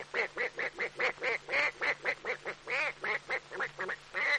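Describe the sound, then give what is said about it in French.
A duck quacks over and over in a quick, steady series of loud, nasal calls, about a dozen and a half in a few seconds, with no other sounds. “Le canard.”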